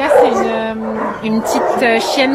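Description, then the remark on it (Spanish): Several dogs bark, yip and whine together in a noisy, echoing chorus, with overlapping high-pitched cries and sharp barks filling the space continuously, at one of the 60 shelters of the French Society for the Protection of Animals in France, which takes in abandoned or seized pets. “se encuentra uno de los 60 refugios de la Sociedad Protectora de Animales Francesa, donde se reciben animales domésticos abandonados o incautados”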